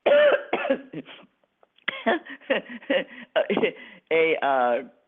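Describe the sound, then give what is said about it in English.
A person coughs and clears their throat in a series of harsh, voiced bursts, loud, with a short pause before a final strained, rasping cough. “I'm working myself up into a cough.”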